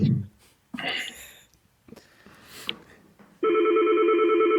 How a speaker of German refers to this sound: Ups, hier klingelt ein Telefon. Entschuldigung. Macht nichts. Ich versuche mal aufzulegen. Klingelt weiter.